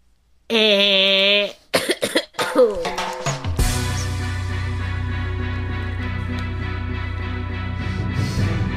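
A loud, droning buzzer imitated by a voice at the end of a countdown cuts off into a quick burst of several sharp coughs from the person making it, followed by a steady tonal hum that fills the rest.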